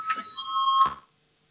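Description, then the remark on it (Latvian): A voting bell rings in a parliament chamber to call a vote on an amendment proposal, one steady, buzzing electric tone lasting about a second before cutting off abruptly into silence. No one speaks. “Lūdzu, zvanu, balsosim par otro juridiskā biroja priekšlikumu.”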